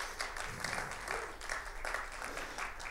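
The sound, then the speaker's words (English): A church audience claps steadily to welcome a helper, a dense wash of overlapping hand claps that holds at an even level throughout, with no voices breaking through. “Come on, give her a clap.”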